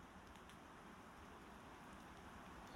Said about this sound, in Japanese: それじゃあ帰ろうか。雨。